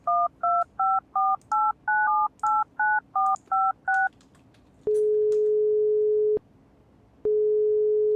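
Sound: phone number being dialed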